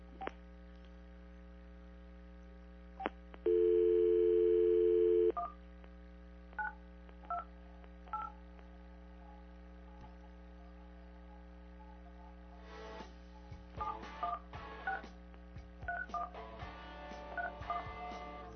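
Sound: telephone keypad dialing tones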